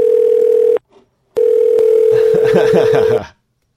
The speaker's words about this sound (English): Oh, is it just going to ring?